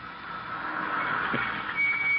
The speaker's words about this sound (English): And there's Peavy's car. They're home at last.